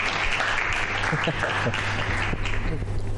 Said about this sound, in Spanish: Un aplauso por las sopaipillas. Aplauso para las sopaipillas.